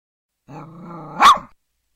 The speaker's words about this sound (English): I like to bark, howl at the moon, go to the park and sleep all afternoon.